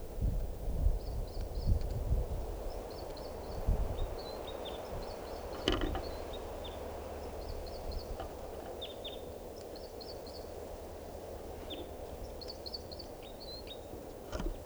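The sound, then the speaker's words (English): A female bird calling and a male bird singing, perched near 387: short, high chirping phrases in quick clusters every second or two, the two birds' sounds mixed together, over a steady rumble of wind and rustling. “Now perched near 387, that's her calling, and him singing, and I'm pointing at the female.”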